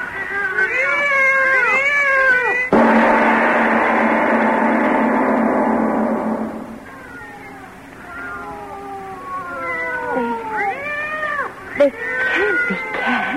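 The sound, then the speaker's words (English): Two cats yowl and caterwaul back and forth in long, wavering, rising-and-falling cries, broken by a loud hissing burst midway, then the drawn-out howling resumes, fairly loud. “I tell you, there's two of them. Lona, listen to them. They're not ordinary cats.”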